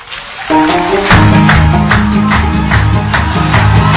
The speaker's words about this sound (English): We'll clap first. And then I'll get them in when the song starts. When the song starts, you can clap with the music.